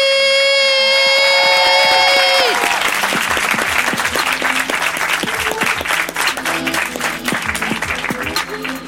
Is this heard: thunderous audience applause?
yes